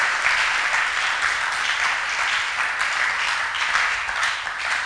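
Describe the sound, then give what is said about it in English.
A crowd claps steadily for about five seconds, a dense, even wash of many hands with no pauses and no talking over it. “I want strong clapping. I don't want bodo clapping.”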